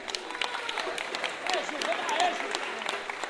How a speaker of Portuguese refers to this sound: queria pedir uma salva de palmas.